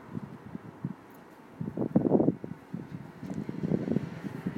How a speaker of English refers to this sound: It's a lot colder than yesterday. Don't you think? The air's cold and it's windy.